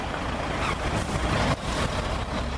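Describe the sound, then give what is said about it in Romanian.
Steady roar of morning road traffic on the road to Bucharest, Romania, with cars and trucks passing, a dense continuous rumble with engines and tire noise blending together, no voices. “Supraaglomerarea se vede peste tot, dar mai ales în trafic dimineața pe drumul către București.”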